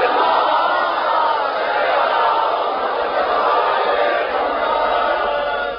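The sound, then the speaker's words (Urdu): A large crowd in Lahore chants loudly in unison, reciting salawat for Al-e-Muhammad together at a speaker's call, a sustained, dense wall of many voices that holds steady without pause for several seconds. “یہ صلوات اتنی بلند پڑھے جتنا آل محمد ذہنی طور پر بلند ہو سکتے ہیں.”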